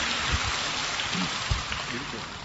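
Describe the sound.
A church audience gives a round of applause to welcome a woman coming up to give her testimony: dense, steady clapping that fills the whole clip at an even level, with a few low voices murmuring beneath it.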